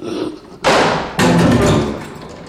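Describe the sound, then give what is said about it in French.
A bedroom door is pushed shut, bolted and double-locked with two heavy thuds about half a second apart, each ringing out briefly before fading. No one speaks. “À peine fut-il dans sa chambre que la porte s'en trouva poussée, verrouillée et fermée à double tour.”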